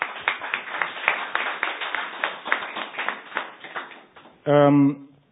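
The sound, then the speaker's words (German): An audience claps steadily for about four seconds in congratulation for an EU prize won in 2013, a dense run of sharp overlapping hand claps at moderate loudness, then fades. It ends with a brief loud tonal sound. “Bitte kräftiger Applaus.”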